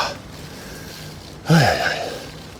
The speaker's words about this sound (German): Ja, jetzt fängt die Schnauferei an.